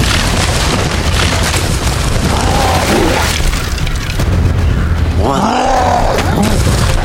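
A giant troll crashes through trees: loud, continuous booming thuds and splintering crashes over a deep rumble, with a brief guttural, growl-like sound rising late in the commotion.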